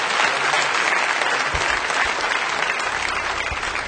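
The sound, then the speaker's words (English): Sustained applause from an audience, a dense, steady wash of many hands clapping at once that stays loud and even for the full four seconds, with no voices rising above it. “Oh, come on, let's go ahead and clap, and then we'll grab hands.”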